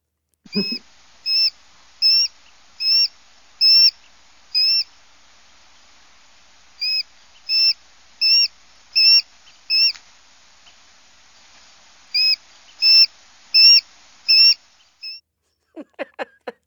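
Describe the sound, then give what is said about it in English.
A small hawk gives loud, piercing screaming territorial calls warning others away from its territory, in rapid series of about five or six shrill notes per burst, with short pauses between bursts. Clear, with no talking. “Well, they have a piercing call like that because they're warning other people that they're getting too close to their territory”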